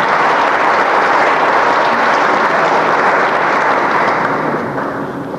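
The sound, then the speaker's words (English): Loud, sustained applause from a large conference audience, a dense steady wash of clapping that holds for several seconds and begins to thin out toward the end. “And before she gets away, a round of applause for Marge Smith, who has done everything to make this conference possible.”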